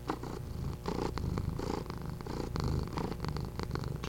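A domestic cat named Watson purrs steadily, a continuous low rumbling with a gentle rhythmic pulse that fills the whole stretch with no talking over it.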